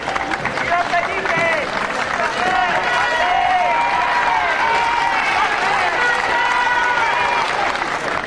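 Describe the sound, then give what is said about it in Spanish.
Steady, dense applause from a large crowd in Vigo with cheering voices and excited shouts layered on top, holding loud and continuous for the whole stretch, as residents greet King Felipe VI on his visit on Tuesday, 24 May. “Vigo ha recibido este martes 24 de mayo a su majestad el rey Felipe VI y lo hacía de esta forma entre aplausos y vítores.”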